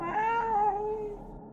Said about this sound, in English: Where am I now? Is that a cat?